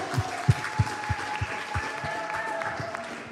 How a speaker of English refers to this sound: Yeah, a round of applause.